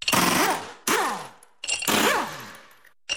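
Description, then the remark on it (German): A pneumatic impact wrench fitting new winter tyres on a car rattles in loud, harsh bursts, three long ones with a whining pitch that rises and falls inside each, then a fourth just starting as the sound cuts off. “So klingt es, wenn Ihr Auto jetzt neue Winterreifen bekommt.”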